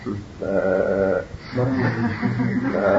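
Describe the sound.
A voice imitates a goat's bleat with two drawn-out, wavering calls, the first short and the second longer. The imitation is fairly loud, with no ordinary speech between them.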